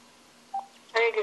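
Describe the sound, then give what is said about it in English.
A single short telephone keypad tone from a home phone beeps quietly over a faint steady hum, and a moment later a voice starts speaking. “And the last read that you heard while she was chanting the prayers with me, I finally was able to get through my home phone.”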